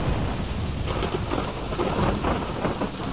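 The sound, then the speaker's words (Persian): Steady heavy rain pours down in a city as a sudden shower, a dense hiss of drops pattering on surfaces, with a low rumble of thunder underneath throughout. No voices. “ناگهان اتفاقی افتاد. باران بارید. باران غافلگیرانه بارید.”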